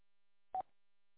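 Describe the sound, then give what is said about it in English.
A single short electronic beep, a steady mid-pitched tone lasting under a tenth of a second, sounds out clearly against silence: the courtesy tone of an amateur radio transmission on the Yankee. “It does have a courtesy tone in the Yankee, so there's no need to say over it.”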